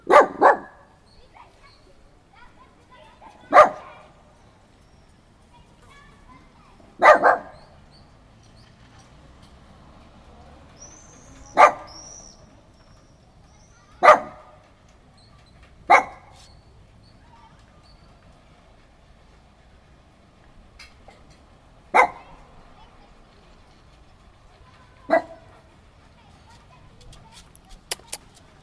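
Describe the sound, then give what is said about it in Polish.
A dog named Lucy gives her threatening bark in single sharp woofs, about nine of them spaced a few seconds apart, loud against a quiet background. “To jest właśnie groźny szczek Lucy.”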